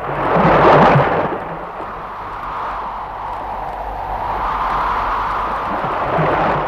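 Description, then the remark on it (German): Ocean waves roar with a broad, rushing wash of noise, surging loudest near the start, easing off, then swelling again toward the end. No voices are heard. “Das war einer der Ozeane.”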